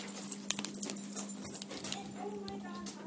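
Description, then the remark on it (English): Light metallic jingling and quick pattering clicks from a puppy moving about, scattered and irregular over a steady low hum, with faint voices in the background. “Hi, puppy.”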